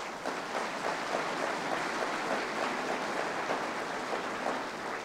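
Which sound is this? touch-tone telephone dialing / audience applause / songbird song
audience applause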